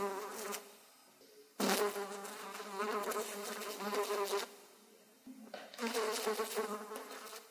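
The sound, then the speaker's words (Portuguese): A fly buzzes in uneven bursts, its droning whine rising and falling as it moves, briefly dropping away before resuming louder. “Pobre irmã mosca, triste inseto díptero, abundante de olhos para não ver a teia, para não respirar as trevas à luz do dia.”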